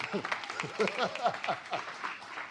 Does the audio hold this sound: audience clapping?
yes